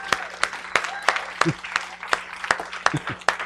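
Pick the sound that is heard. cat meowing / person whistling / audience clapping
audience clapping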